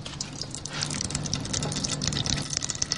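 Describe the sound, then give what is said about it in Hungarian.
Dark brown pumpkin seed oil, pressed out of a holed press vessel, runs in a steady trickle into a red Bonyhád vessel at the Tök Jó Porta in Őrimagyarósd, a continuous wet pouring sound with small splashy flickers over a low, even mechanical hum. “elméletileg az edénynek, a lyukas edénynek az oldalán, akkor így is van, megindul a sötét barna színű olaj, és elkezd lecsorogni abba az edénybe, abba a piros bonyhádi edénybe, amit alá tettünk.”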